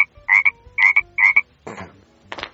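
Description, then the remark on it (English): Three loud, twangy croaks of a bullfrog, Lithobates catasbionus, in a quick rhythm, followed by two rougher, raspier croaking bursts. No one speaks. “Although, now that I'm really looking at it, I think it's Lithobates catasbionus. Yep, that's what it is. The Lithobates catasbionus goes...”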